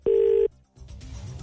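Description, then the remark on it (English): A single loud burst of a telephone ringing tone, a steady buzzing pitch lasting under half a second, then a brief silence and a low, hissy line noise. “It's continuing to ring.”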